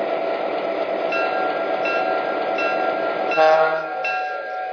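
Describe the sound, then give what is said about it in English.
A Norfolk Southern passenger train, the Blue Ribbon Special with locomotives and equipment from the Office Car Special Fleet, rolls into a station on a run between Atlanta and Chattanooga with a steady rumble, high sustained tones riding over the clatter and a brief swell of louder noise near the end. “Blue Ribbon Special is now approaching the station. Please be ready to board.”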